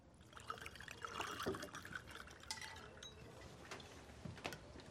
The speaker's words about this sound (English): the man fills the glass to the top.